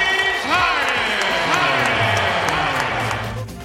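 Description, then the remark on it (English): A large arena crowd in Houston roars steadily as a former Rockets basketball player returns as a member of the Nets: a dense wash of cheering and shouting with scattered whistles, some boos mixed in beneath the louder cheers, fading slightly at the end. “More cheers than boos is the way it sounded there.”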